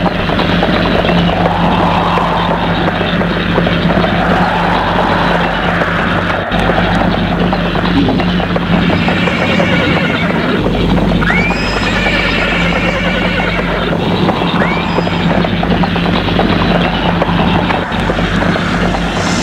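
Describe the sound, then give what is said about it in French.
A ridden horse gallops as fast and far as possible, with steady clip-clopping hoofbeats while whinnying calls rise over the pounding, all against a constant low rumble of background noise, with no one talking. “Il va le plus loin possible avec son cheval.”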